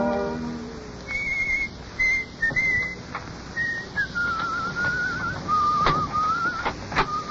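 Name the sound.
a person whistling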